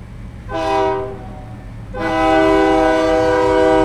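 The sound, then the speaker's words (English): A train horn blasts twice, a short call followed by a longer sustained one, loud over the steady low rumble of a train passing through Gallup. “Here comes the train.”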